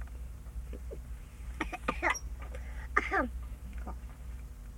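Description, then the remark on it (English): A few short coughs come in two clusters partway through, moderately loud with a slightly voiced, throaty edge, over a steady low background hum. “Coughing.”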